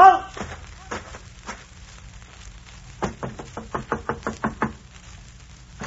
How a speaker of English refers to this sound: King George's men came marching up to the old inn door.